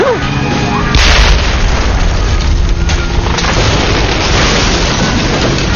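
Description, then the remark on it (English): A pipe bomb explodes at the base of a huge, burning pine tree beside a road, ripping the base apart: a sharp, loud crack about a second in, followed by a heavy, sustained roar and rumbling noise that carries on for several seconds. “The charge ripped apart the base of the giant pine.”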